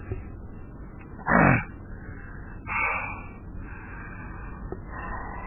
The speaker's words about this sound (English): God, I am congested. What on earth is this? It seems like every time I eat, I get this phlegm thing up to the very back of my throat, and I'm constantly having to cough it up.